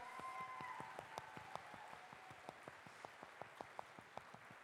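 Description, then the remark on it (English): An audience applauds to welcome a guest from the Portsmouth Youth Cabinet to the stage, a dense patter of many hands at first that gradually thins out into a handful of distinct, scattered claps near the end, with no voices over it. “Can we give a round of applause for Theo?”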